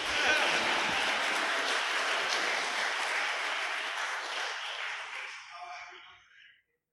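crowd cheering and applauding

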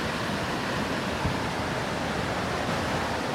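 rushing waterfall

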